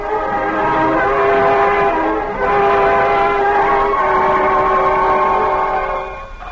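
An air raid all-clear siren holds one loud, steady, rich tone for several seconds, with a brief dip partway through before it carries on unbroken, with no voices over it.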